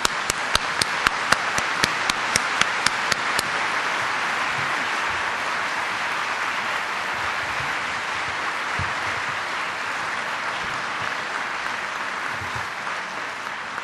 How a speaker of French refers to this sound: Et voilà, on l'applaudit.